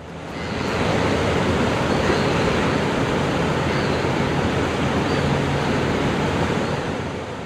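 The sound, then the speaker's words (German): Heavy ocean surf roars steadily on the Cape Peninsula, a dense wash of breaking waves filling the scene from start to finish, loud with no voices. “Die Brandung kann stark sein auf der Kap-Halbinsel.”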